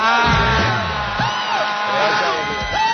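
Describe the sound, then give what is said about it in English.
A large theater audience screams and shrieks continuously, many high voices overlapping into a loud, sustained wall of panicked yelling with rising and falling wails throughout. “The tingler has been paralyzed by your screaming.”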